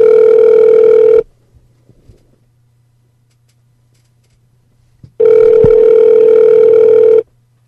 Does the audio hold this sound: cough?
no